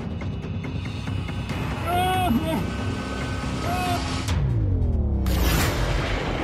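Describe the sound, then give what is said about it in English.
Dom Mee's tiny 21-foot boat, the Little Mirka, pounded by hurricane-force storm winds in the North Atlantic: a constant heavy roar of wind and churning water, with high whistling gusts rising and falling and a loud sweeping whoosh near the end. “Pounded by hurricane-force winds in the North Atlantic, Dom Mee's tiny 21-foot boat, the Little Mirka, is the key to his survival.”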